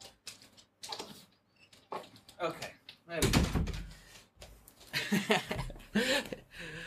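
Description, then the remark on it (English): A door swings shut with a solid, heavy thud midway through, preceded by light handling noises and followed by a person's voice and brief laughter. “Let me close this door because that beeping is still bothering me.”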